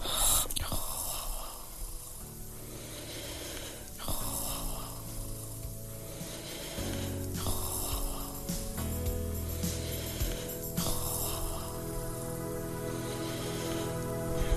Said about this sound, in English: snores like a flipping pig. It's true. It's true.